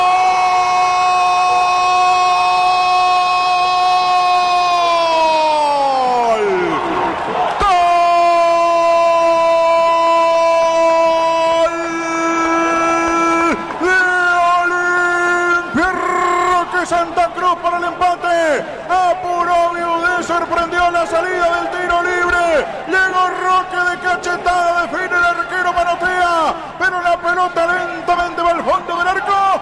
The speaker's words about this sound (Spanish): Igual Olimpia con Roque Santa Cruz, llegando para definir y poner la paridad aquí en Paraguay, con este griterío de su público.